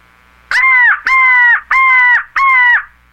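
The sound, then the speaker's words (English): A handheld crow call, used by a turkey hunter to make turkeys gobble, blown four times in a steady rhythm, producing loud, harsh, raspy caws that mimic a crow, with no talking. “But I also, like I said, I'll use this crow call right here.”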